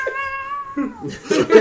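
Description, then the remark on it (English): A cat yowls in a long, wavering drawn-out cry, followed by rougher, throatier bursts near the end. It is fairly loud, with no other sounds around it. “The cat's still alive.”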